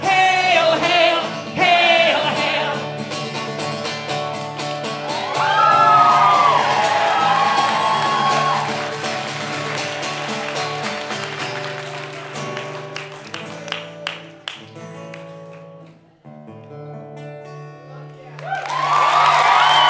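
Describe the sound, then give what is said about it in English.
A large, loud crowd at a concert by a death metal band from Denton chants "Hail Satan" and cheers in unison, with rising whoops and shouts, dipping briefly toward the end before swelling back up. “Sing it. Hail Satan! And put your horns up.”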